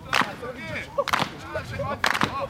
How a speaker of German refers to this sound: Die Spieler klatschten unter Dardais Anleitung in die Hände und sie mussten sich synchron bewegen.